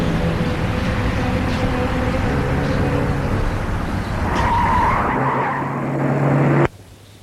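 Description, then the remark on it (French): A car that no longer responds to its controls roars at crazy speed on a drive to Paris, with a sustained, rising screech of tires skidding, loud, before cutting off abruptly near the end. No voices are heard. “Durant le trajet, la voiture ne répond plus à ses commandes.”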